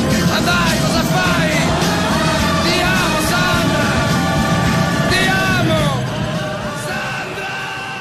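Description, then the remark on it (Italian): A singer yells and bellows over a loud, dense rock backing, the strained voice sliding up and down in long cries before the music eases slightly at the end. “Mi inchino di fronte a queste urla, perché vengono da un grande.”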